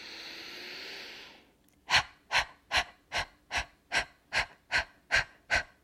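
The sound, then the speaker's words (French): A long steady exhale gives way to ten sharp, forceful nasal breaths in a quick, even rhythm as a person rapidly exhales and inhales through the nose while contracting the abdominal muscles with each breath, each a short loud puff, with no talking. “Et tu vas pouvoir prendre une grande inspiration et tu vas expirer et réinspirer rapidement par le nez tout en contractant les muscles abdominaux à chaque respiration.”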